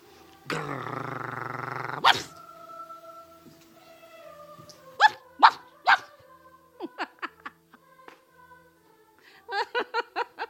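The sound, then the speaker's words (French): A voice imitates a dog barking in Bay Lane, opening with a long rough growl, then letting out sharp barks in a few clusters, some quick yaps in a row, loud with no other talk. “Il en crevait de rire quand j'imitais le chien. Aboyant dans Bay Lane.”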